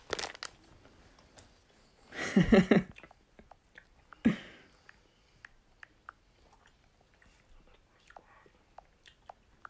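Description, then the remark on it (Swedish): Crunchy chewing as someone takes a bite of food: a loud crisp bite followed by a burst of crunching, another sharp crunch, then quieter intermittent mouth clicks and small crunches, with no one talking. “Jag är så snabbt att jag tar bort handen och tar en tugga.”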